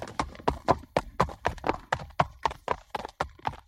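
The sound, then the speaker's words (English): Hooves of a ridden horse clip-clop steadily on a hard surface, a quick, even rhythm of sharp knocks, fairly loud, with no voices over them. “That's right, it's horse riding.”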